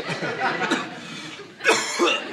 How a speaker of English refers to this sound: Sorry, I don't mean to cough in your face and spread germs.